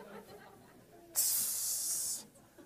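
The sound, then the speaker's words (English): A voice imitates a disapproving hiss: one sharp, bright "tss" lasting about a second, starting abruptly and cutting off cleanly, loud against faint low background sound. “And so, you know, the hissing is just like, tss.”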